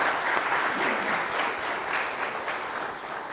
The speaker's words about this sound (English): But let's have a round of applause for all our graduates this morning.